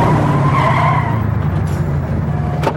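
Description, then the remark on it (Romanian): A car skids loudly, tires squealing over a heavy engine rumble that fades as it slows toward a stop, ending with a short sharp noise. “Oprește mașina sau sar din mers, am zis.”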